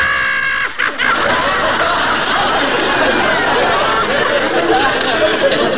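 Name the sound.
woman screeching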